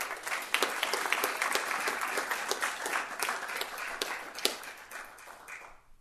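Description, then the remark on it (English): A crowd at a town meeting applauds a police officer recognized for her efforts, many hands clapping in a dense, even patter with sharper individual claps standing out, holding at a moderate level for several seconds before tapering off at the end. “So if we could give her an applaud.”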